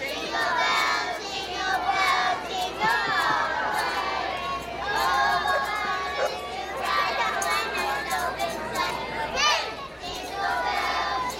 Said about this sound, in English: We've got the Los Osos Community Curbside Choir live with Jingle bells on the count of three. Make it loud. Make it all. One, two, three.